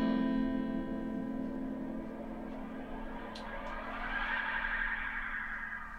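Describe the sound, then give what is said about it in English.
A sustained, swirling tape space echo effect, demonstrated by a musician, builds into a whooshing wash, tones smearing and repeating into a dense trail that swells near the end. No voices, just the processed sound. “Well, and also we were saying on that track, you can hear the space echo right there in the top.”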